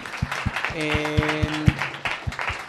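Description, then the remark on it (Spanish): An audience applauds, with steady rhythmic claps over a broad wash of crowd noise and a brief sustained tone in the middle; voices murmur underneath. “Bien, aplausos, por favor.”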